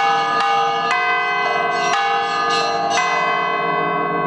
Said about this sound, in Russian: Для меня это, прежде всего, конечно, часть моей души, часть моей жизни, вот эти колокола.